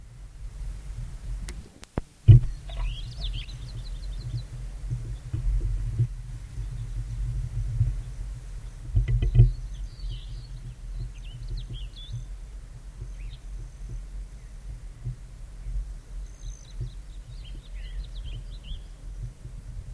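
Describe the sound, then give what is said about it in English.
A passing male broad-tailed hummingbird's wing buzz passes briefly, followed by bursts of high, thin chirps from the resident male on its perch, repeated in scattered clusters over a steady low rumble of background noise. “Every time another passing male comes by, you can hear the wing sound of the intruder, and then the resident starts giving chirps.”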